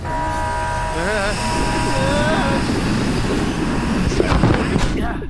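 A hatch is cracked open just a hair and air is sucked out by vacuum pressure in a steady, loud rush, with a warbling electronic whine early on and a few sharp crackling bursts toward the end.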